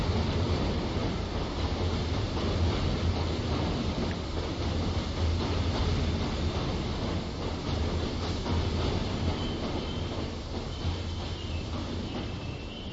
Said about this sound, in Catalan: Bueno, perquè el tren està arribant a l'estació, ja. Vale. Doncs... Està a punt de parar, Posa el que freni.